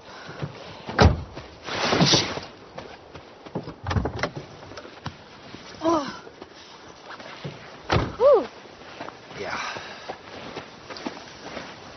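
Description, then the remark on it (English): A door is shut with a solid thunk outdoors in cold weather, amid several other knocks and clunks spread over a few seconds, with soft background noise and faint voices in between. “Oh, I'll get your door.”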